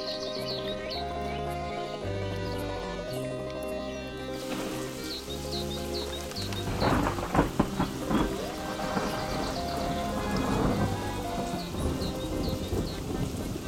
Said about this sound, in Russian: Отстучав последними капельками по стеклу, дождь кончается.